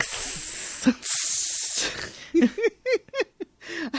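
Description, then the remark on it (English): Two loud bursts of sizzling, steam-like hiss, each about a second long, followed by a series of short, rhythmic voiced sounds that rise and fall in pitch. “I'm a sizzling 104.9.”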